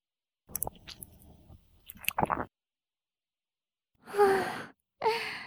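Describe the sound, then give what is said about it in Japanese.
Wet chewing with soft squishing mouth clicks for a couple of seconds, then a pause and two breathy, audible sighs. “噛まれるたび、咀嚼した数、快感が突き抜ける。”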